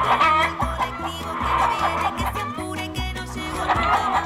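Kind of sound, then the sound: animal, hen clucking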